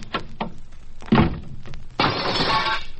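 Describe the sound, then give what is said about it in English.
A couple of light knocks, then a heavy door with the word exit on its glass slams shut with a loud thud, followed a moment later by a long crash of glass shattering and tinkling down. No one speaks. “Ever slam that door, Tex. That was the wrong door you told him to go through.”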